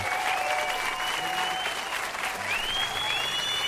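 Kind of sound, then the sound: crowd, applause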